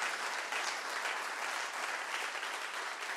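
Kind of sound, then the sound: crowd, audience applauding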